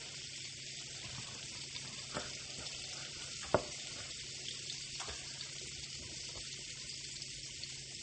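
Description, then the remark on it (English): Steady, dense crackling and sizzling of butter bubbling in a frying pan, a constant hiss broken by occasional sharper pops, one louder pop standing out midway; no one speaks. “But like I said, it needs to stop bubbling before I do that. And now it's accelerating.”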